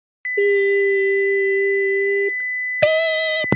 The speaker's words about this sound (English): Beep.